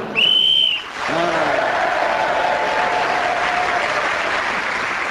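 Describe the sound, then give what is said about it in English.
A single loud, shrill whistle blast lasting under a second, blown to end a round of the panel game Just a Minute, immediately followed by sustained applause from an audience, with a few voices rising briefly through the clapping. “Julian Clary getting points in that round, including one for speaking as the whistle went.”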